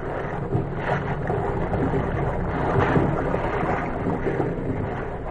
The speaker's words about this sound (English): what was happening on the darkened deck of the incoming liner, some 300 miles at sea